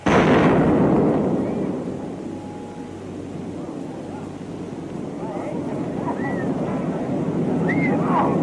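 A nuclear blast's shockwave reaches a camera 7 miles away: a loud bang with a sharp onset, then a long, deep, continuous rumble of earth being sucked into the mushroom cloud rolls on steadily at high volume, heavy with low-end roar.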